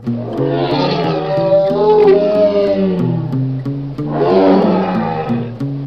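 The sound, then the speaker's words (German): Two long, loud tiger roars, each a deep, rumbling growl that swells and wavers for a few seconds, with a brief gap between them and no talking. “Und jetzt die Tiger.”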